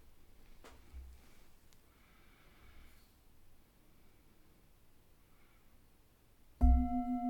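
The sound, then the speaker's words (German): A single meditation gong is struck after several seconds of near silence, its loud, bright ringing tone with layered overtones sustaining to the end. “Wenn du magst, kannst du nach dem Gong eine Kurzübung anhören.”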